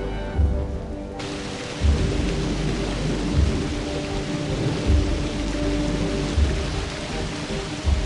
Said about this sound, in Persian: اوه بله، طوفان‌های بزرگ بیشتر نقاط کشور رو پوشوندن. به این ترتیب هوا خیلی متغیر خواهد بود.